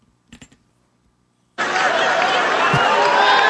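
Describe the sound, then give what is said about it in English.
After a few faint clicks, a big crowd suddenly erupts into loud cheering and applause as a man drinks water with one hand, a dense, steady roar that carries on without a break to the end. “They love seeing him drink the water, and then cheers crowd, and then takes another sip, but wait for it, tosses it, and they go.”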